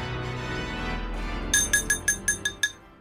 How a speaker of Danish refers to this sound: Nå, skal der slås på glasset derovre?